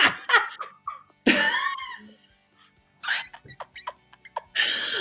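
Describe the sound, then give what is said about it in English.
A voice imitates dolphin squeaks in a quick run of high, chirping clicks and whistly sweeps, with a brief pause midway. It is fairly loud, with no ordinary speech. “Oh, I had to end on the dolphin.”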